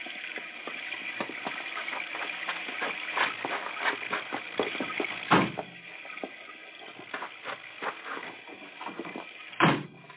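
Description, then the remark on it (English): Car doors are opened, and two heavy car doors slam shut, one midway through and one near the end, amid a steady clatter of handling and shuffling noises. “I'll open the car doors.”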